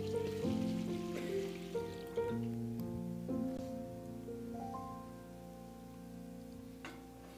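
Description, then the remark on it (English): Water pours steadily into a baptismal font during a baptism, a continuous splashing trickle whose hollow ringing tone rises as the basin fills, with no voices. “Go ahead and pour the rest in.”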